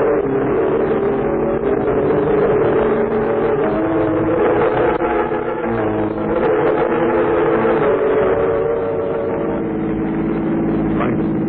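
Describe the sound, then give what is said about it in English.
A car engine drones steadily while driving, a loud, continuous low rumble with a constant hum and no real changes in pitch or speed across the whole stretch. “Wait till we get out to the car.”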